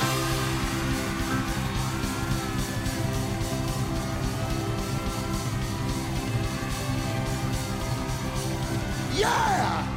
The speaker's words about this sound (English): On the count of three, I want you to scream like you crazy. One, two, three.